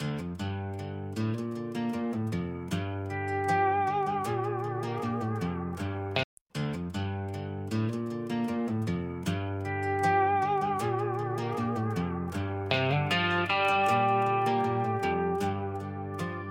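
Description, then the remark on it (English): A song's instrumental intro plays on its own, full and steady with layered sustained tones and a driving beat, interrupted by a split-second dropout partway through before the music carries on. “All right, so we're gonna go ahead and play the song that you did for me.”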